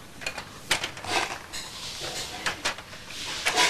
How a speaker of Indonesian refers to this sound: Kalau keluar rumah dari mana? Dari sini, dari pintu. Iya, buka pintunya dia.